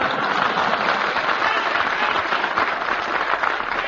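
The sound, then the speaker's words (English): A studio audience applauds steadily, a dense wash of many hands clapping at an even, loud level throughout with no voices breaking through. “I'm thanking you, ladies and gentlemen, for your applause in advance.”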